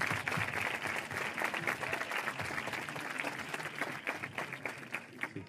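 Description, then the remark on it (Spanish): An audience claps steadily throughout for five speakers at the start of a discussion panel (tertulia), a dense, sustained burst of applause with rapid overlapping hand claps at an even loudness from start to finish. “Así que, bueno, pido un fuerte aplauso a los cinco para dar comienzo a la tertulia.”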